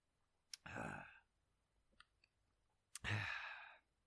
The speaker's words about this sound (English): For people just listening, that's me sipping on Poland Springs water.